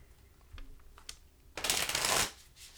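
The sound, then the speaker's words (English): A water-damaged, hard-to-shuffle deck of cards is shuffled: a few light taps and ticks, then a dense, crisp riffling burst lasting about a second before it stops. “Who knows, because this deck is hard to shuffle.”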